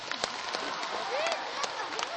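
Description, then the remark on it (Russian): A group applauds after an oboe is played for the duck character, clapping continuously, a dense patter of many hands with a few sharper claps standing out, while faint voices mix into the noise. “Аплодисменты утке.”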